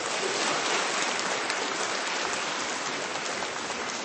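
An audience at a gathering claps warmly and steadily, greeting one another with applause, a dense, even patter of many hands that stays at a constant strong level for the whole few seconds, with no voices over it.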